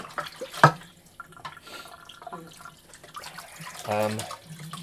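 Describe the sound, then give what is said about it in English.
Water splashes and sloshes in a sink as greasy pots and dishes are washed up, with a sharp clatter early on and a brief ringing clink of crockery near the end, plus faint murmured voices. “Trouble is, I'll rinse these after I've washed them, because the grease is getting a bit grubby.”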